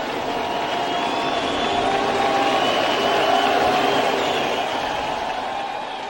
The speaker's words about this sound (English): What kind of reception did Jones receive last night at Fenway? Well, in the first inning when he went to bat, the crowd gave him a sustained ovation. Listen.